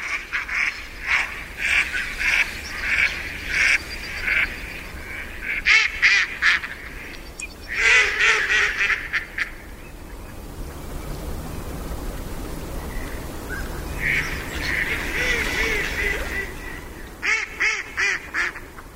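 Mallard ducks quack in several loud, rapid bursts on a pond at dusk as it grows dark, swimming about restlessly, with quieter stretches of ambient water and breeze between the clusters of calls; no one speaks.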